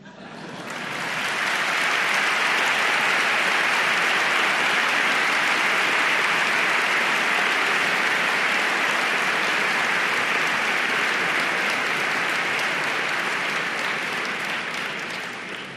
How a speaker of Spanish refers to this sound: No es por nada, pero ha sido el mejor aplauso, ¿eh? La canina tiene tirón.